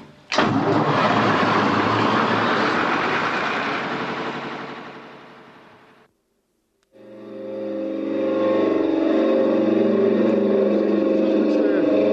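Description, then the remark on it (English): A Lister engine at a fog signal station starts up for a fog signal test with a loud, rough burst that fades, then after a short pause settles into a steady, droning run with a humming mechanical tone. “I'm going to start up the Lister engine now to get the fog signal test.”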